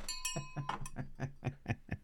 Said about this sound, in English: All right, you get a bell for that.